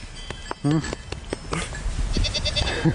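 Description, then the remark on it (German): Goats bleat and snort on a 200-year-old farm up above a valley, one wavering bleat standing out amid scattered clicks and rustling, with a shorter bleat near the end and a faint voice in the background. “Dort oben auf dem 200 Jahre alten Bauernhof mit herrlichem Blick ins Tal hört man die Tiere stetig meckern und schnauben”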